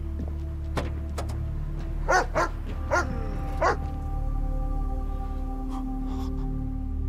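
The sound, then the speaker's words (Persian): A police officer's dog barks in a few short, sharp bursts, four or five yips spaced unevenly over a steady low engine-like hum, with no one speaking. “نه، ولی فکر کنم سگم جرمو بو کشیده.”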